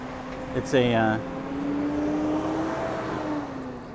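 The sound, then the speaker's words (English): A large box truck of the company Vaquila, driven one-handed, drones steadily as it makes a turn, a low sustained engine hum shifting slightly in pitch, with a brief tonal burst near the start over background noise. “It's a company called Vaquila, and they had one large box truck.”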